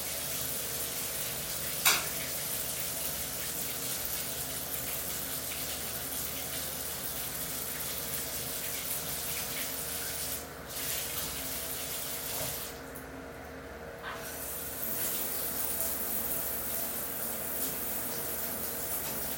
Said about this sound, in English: Shower works. Shower is in good shape.